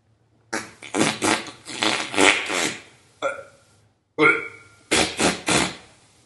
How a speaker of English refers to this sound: We hear him farting and burping.